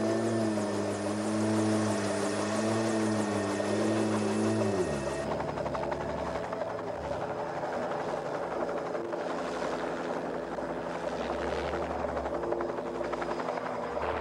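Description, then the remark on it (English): A convoy of four helicopters flies toward a mountain on a search-and-rescue mission for a missing family, engines whining steadily before giving way to a loud, continuous thudding rotor drone that fills the whole stretch with no voices. “A convoy of four helicopters flies toward the mountain.”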